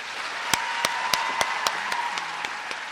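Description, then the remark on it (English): Audience applause welcoming Ronan Farrow and Robin Young: a steady hiss of many hands clapping, with a handful of sharper, evenly paced claps popping out above the wash. Moderate level, no voices. “The applause is for Ronan Farrow.”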